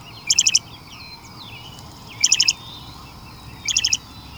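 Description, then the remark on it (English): A loggerhead shrike, a songbird that is a bird of prey a bit smaller than a robin, calls: three separate bursts of four quick, harsh, high notes, spaced a couple of seconds apart, loud over faint background chirping and low outdoor rumble. “But this bird of prey is a songbird, a bit smaller even than a robin. It's a loggerhead shrike.”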